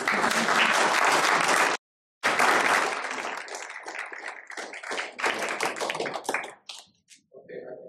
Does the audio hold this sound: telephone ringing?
no